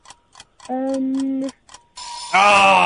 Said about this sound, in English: Oh, sorry about that. There's the buzzer on that one.